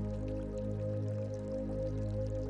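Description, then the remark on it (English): Soft, continuous trickling water from a fountain, gentle and steady, with a low sustained hum underneath and no voices. “Only this quiet and closed space and the soft sound of water moving at the center of it. You find a bench near the fountain and sit down.”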